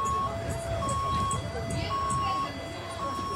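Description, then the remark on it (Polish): A Polish Red Cross (PCK) emergency vehicle's siren sounds off in a steady two-tone pattern, alternating high and low notes every half second or so, over a continuous low rumble of traffic, at an event on the grounds of the police prevention unit at Harfowa Street 60 in Gdańsk, Poland. “Nie, to jest PCK.”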